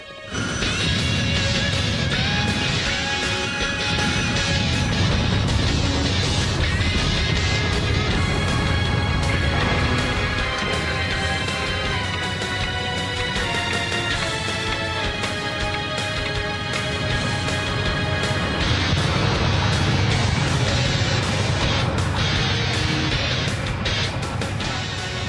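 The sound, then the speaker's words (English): A truck roars as it accelerates down a runway, reaching 500 kilometers per hour in 8 seconds, a loud, continuous engine blast with a dense whine running steadily for about twenty-five seconds, no voices. “So if you're ready, let's get out and taxi on the runway.”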